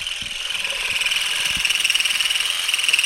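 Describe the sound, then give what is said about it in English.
A steady, high-pitched motorized whine buzzes continuously with a fast pulsing flutter from a vibrating olive-harvesting rake combed through olive tree branches to shake off the olives, with a few faint knocks and rustles underneath and no talking. “You just kind of combed the vibrating rake through the branches and the olives started whizzing off in all directions.”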